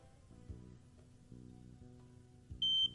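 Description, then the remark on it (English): A smoke alarm's low-battery chirp in a guest bedroom: one short, piercing high-pitched beep sounds near the end, standing out clearly over a steady low background hum. “I don't think Junior has smoke alarms. Yes, I do. I replace the batteries every year so they don't go off.”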